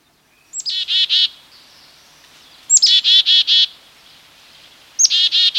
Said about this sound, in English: We're hearing the year-round sound of the black-capped chickadee.